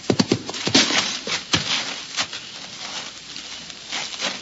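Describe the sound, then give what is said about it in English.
Hoofbeats of a rider's horse coming this way clop in a quick, uneven cluster, then thin out to scattered, softer strikes. No one speaks. “There's a rider coming this way.”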